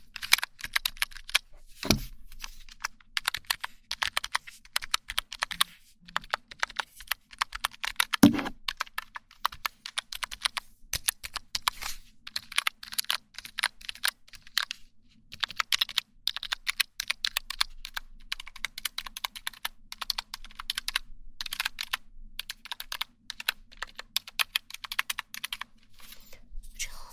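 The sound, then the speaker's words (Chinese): Rapid clicking of keys being pressed on a small wireless numeric keypad, a numbers-only keypad bought online, a steady stream of light taps with a couple of heavier thumps early on, and no voices. “无线数字键盘，无线数字键盘，不知道怎么用，反正我也没用过。”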